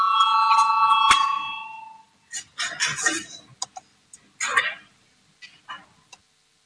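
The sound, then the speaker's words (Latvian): A loud electric bell rings steadily for about two seconds in a parliament, calling deputies to vote on a proposal, then stops. Scattered bursts of rustling, knocks and muffled room noise follow. “Lūdzu zvanu, balsosim par 200.”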